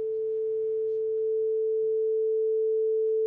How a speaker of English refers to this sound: Okay, here's what 440 hertz sounds like. Let's just, like, hear a sine wave of that.